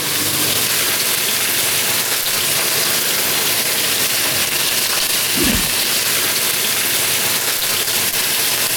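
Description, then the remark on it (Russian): Fish sizzles in a little oil in a preheated pan with a steady, loud crackling hiss that runs unbroken throughout, broken only by a brief low thump about halfway through. No one speaks. “Вы можете, значит, я начинаю обжаривать рыбу, вы сполосните досочку и на ней порежете зеленый лук.”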